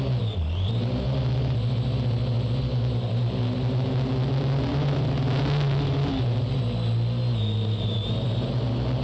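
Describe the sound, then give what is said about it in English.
A steady, high-pitched mechanical buzz of spinning drone propellers hums continuously and loudly, with slight shifts in pitch as it hovers; no one speaks. “Not the sleep-inducing droning of an uninspired talk host, but actual flying drones.”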